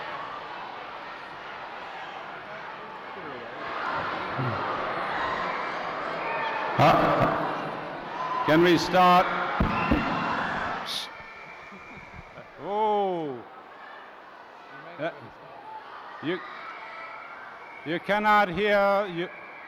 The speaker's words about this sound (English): May I ask the audience to keep quiet, please, otherwise we cannot conduct our news conference.